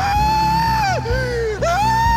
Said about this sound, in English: screamed